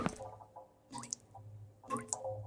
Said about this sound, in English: The sound of something dripping. The soft plink, plink of water hitting a hard surface.